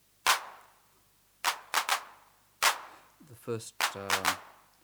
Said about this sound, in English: Now here's our hand clap on the unmodified machine.